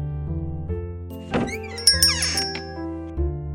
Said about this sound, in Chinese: 玩具店老板推开门走进来